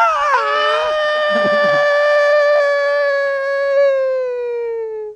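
A long, exaggerated vocal yawn: a wavering onset settles into a high, steady, almost howl-like tone held for about five seconds before cutting off.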